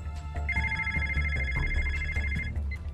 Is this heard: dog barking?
no